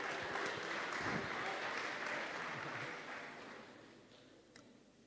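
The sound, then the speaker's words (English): A crowd claps in a dense, steady burst of applause that holds for a few seconds, then gradually thins and fades out toward the end. “Round of applause, guys, please.”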